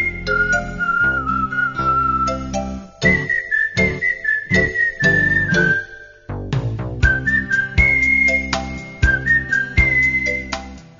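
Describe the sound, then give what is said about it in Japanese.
A clear, sustained whistled melody, performed live, glides over a lively band accompaniment with bright plucked strings from a live mandolin, steady rhythm and full bass. It is loud, with no talking. “和ませ気持ちも弾む生演奏のマンドリンと絶妙のコラボレーション、おなじみの口笛、もちろん生演奏ですよ。”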